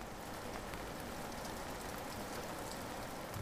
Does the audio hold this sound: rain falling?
yes